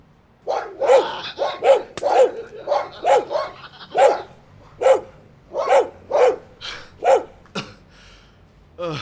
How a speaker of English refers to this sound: Nós temos armas e cães. Cães muito grandes e muito ferozes.